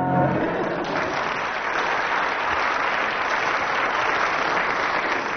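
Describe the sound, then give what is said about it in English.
A crowd claps steadily for several seconds, a dense, even wash of applause that holds at a constant loudness throughout, with no voices standing out; the audience applause is used to score a performer's act. “And judging from audience applause,”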